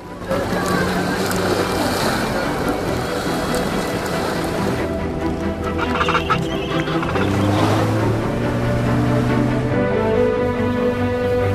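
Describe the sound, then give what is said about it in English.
A small inflatable rubber dinghy's outboard engine drones loudly and steadily, its pitch shifting slightly, with water splashing and hissing against the hull throughout, as the boat carrying postal workers speeds away from the penguins at Port Lockroy. “The postal workers board a rubber dinghy, then wave goodbye to the penguins as the boat speeds away.”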